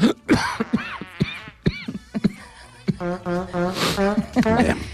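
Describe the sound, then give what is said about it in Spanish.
A burst of repeated harsh coughs in quick succession, followed by strained, voiced throat sounds as the person tries to recover. “Y tos, y la tos que me ha entrado.”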